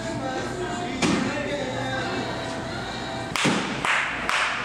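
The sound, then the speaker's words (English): Sharp bursts of air from a small air cannon and hand claps cut through a steady background hum: one loud blast, then after a pause three more in quick succession, each sudden and forceful. State troopers and public safety officers clap and fire the air cannon to scare an eagle down from the rafters of a store. “They clapped their hands and fired loud bursts of air at the eagle with a small air cannon.”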